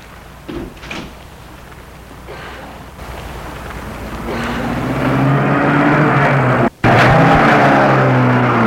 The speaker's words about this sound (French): La voiture a filé. Elle quitte Paris pour prendre des rues de banlieue. Elle roule, roule.